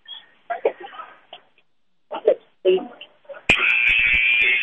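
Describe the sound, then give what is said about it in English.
A game buzzer at a women's basketball game blares loud and steady for over a second, calling the players back onto the court, cutting in sharply after a stretch of murmuring voices and arena noise, and holding to the end. “Buzzer's calling the girls back in.”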